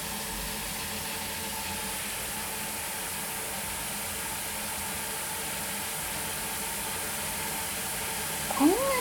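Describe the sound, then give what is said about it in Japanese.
Steady hiss of running shower water fills the whole stretch as Nyanta the cat is given a bath, then the cat gives one short meow right at the end, rising over the water noise. “にゃんたって、ほんとにお風呂好きだね。”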